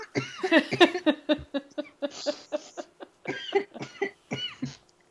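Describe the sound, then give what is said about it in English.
After laughing too hard, a person breaks into a run of rapid, repeated coughs, a choppy fit of a dozen or so hacks with short wheezy breaths between, blending laughter into coughing. “Sometimes when I laugh too hard, I start coughing.”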